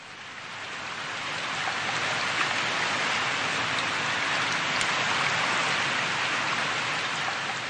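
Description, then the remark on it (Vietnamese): Steady rain falls through the night on a mountaintop above Tây Ninh town in southern Vietnam, a dense, even hiss of countless drops pattering on a surface, moderately loud, with no voices. “Mưa tí tách suốt đêm, tôi đắp hai cái mền mà cũng không hết lạnh.”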